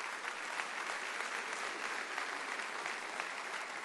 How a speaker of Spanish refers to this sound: Es un aplauso a Dios que Él se lo merece.